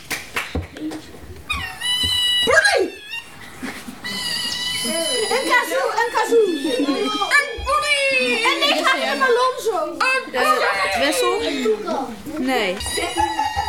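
A sea otter gives loud, high-pitched squeals and squeaks in a rapid, continuous string, the harmonic cries bending up and down in pitch without pause for about fourteen seconds.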